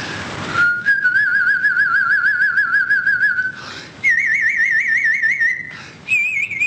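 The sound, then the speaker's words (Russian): A person demonstrates a whistled trill: a rapid, warbling trill in three sustained phrases, each stepping slightly higher in pitch, fairly loud with short breaths between them and no talking. “Например, трель, я вам сейчас продемонстрирую.”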